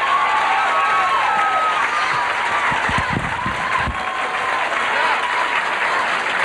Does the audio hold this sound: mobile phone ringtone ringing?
no